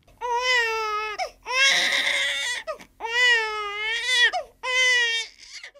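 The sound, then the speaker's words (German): A baby cries loudly in four long, wailing bursts separated by short gasping breaths, the second burst turning harsh and strained. “Solche Schreie treiben junge Eltern oft genug in den Wahnsinn, gerade wenn das Baby sich partout nicht beruhigen lässt.”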